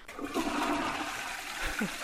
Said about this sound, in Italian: Il primo sciacquone della settimana arriva meritatissimo, quasi da medaglia. Io sì, direi. E che sciacquone! Veramente.